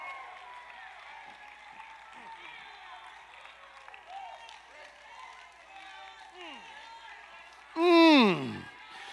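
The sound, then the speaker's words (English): An audience claps and shouts together in a steady, lively din of overlapping voices and hand claps, ending with one loud, high whoop that slides down in pitch. “We got to dance a little bit. We got to clap a little bit.”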